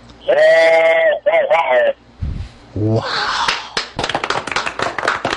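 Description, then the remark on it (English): A voice imitates a passing train using only the throat, giving two long, nasal whistle blasts and then a breathy, rapid chugging rhythm of clicks and hisses that keeps going to the end. “Now, there are people, I've seen those wooden things you buy at Cracker Barrel, you blow in them, it makes a train sound. You did that with your throat.”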